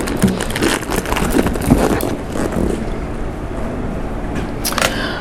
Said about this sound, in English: I'm sorry I'm rustling around here. I want to get my phone so I can keep a mindful eye on time.